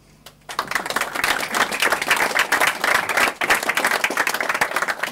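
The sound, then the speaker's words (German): An evening audience applauds at the Peter-Palme-Bibliothek in Frieda 23, Rostock, celebrating the 25th anniversary of the Rostocker Kunstschule and the opening of a festival week. Many hands clap in a dense, crackling wash that starts abruptly after a brief quiet moment and holds at a strong, even level throughout. “Applaus für genau dieses Geburtstagskind gab es gestern Abend in der Peter-Palme-Bibliothek in der Frieda 23.”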